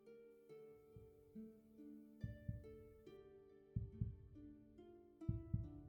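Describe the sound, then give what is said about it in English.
A human heartbeat thuds in low, paired beats at a slow steady rhythm, muffled, over a sustained tonal hum with no one speaking. “No, it's not your heartbeat. It's mine.”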